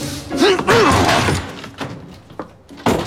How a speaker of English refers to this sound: Nobody seemed to mind my kicking the door in.